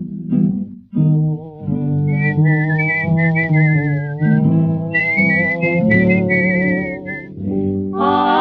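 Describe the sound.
A bright, wavering whistled melody glides over a warm band accompaniment, carrying a lively tune from start to finish at a steady, fairly loud level.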